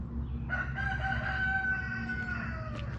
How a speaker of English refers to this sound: Hey guys, I hear a chicken. I hear a rooster somewhere across this bridge.